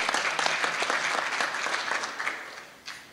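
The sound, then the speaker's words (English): A crowd applauds steadily, a dense wash of many hands clapping at even loudness that begins to taper off near the end, with no voices over it. The applause is for the filmmakers of Nightmare Alley, who hired over 200 local residents for the filming. “So let's give them a round of applause on that.”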